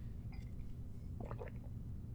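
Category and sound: human body sound, drinking water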